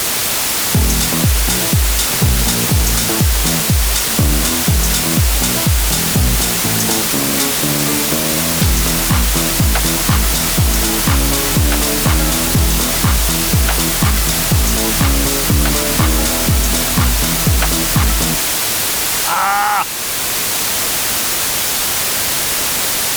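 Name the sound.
noise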